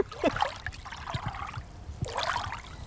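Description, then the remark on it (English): Water trickles and splashes steadily into a water trough in a garden, with bright bubbling bursts rising and falling in irregular surges, moderately quiet, with no voices. “You've got a proper water butt. Proper water trough.”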